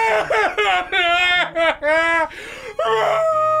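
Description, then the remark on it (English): A voice imitates a beast crying and screaming, with wavering, high-pitched wails and whimpers that rise and fall in several loud bursts over a few seconds. “This is the beast crying and screaming.”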